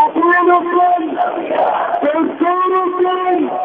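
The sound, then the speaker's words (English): A large crowd of mourners at the funeral procession of Hamas leader Rantisi in the streets of Gaza, shouting and chanting together, loud and continuous, with sustained pitched cries rising and falling and a brief jumble of voices midway before the chant resumes. “The funeral procession flooded the streets of Gaza with mourners jostling to touch Rantisi's bruised and lifeless face.”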